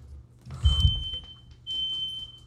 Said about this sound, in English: What was that big beep? Fire alarm. I'll be back.